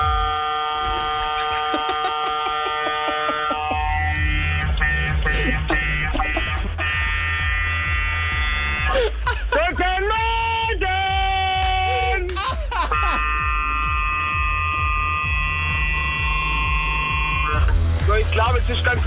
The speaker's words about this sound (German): Hast du gerade mit dem 40-Tonner gehupt? Genau.